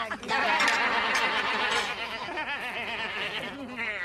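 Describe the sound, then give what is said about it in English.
Several voices bleat together in a wavering, nasal chorus, people loudly imitating goats, with bits of laughter mixed into the overlapping calls. “You do the best goat. I do a very normal goat.”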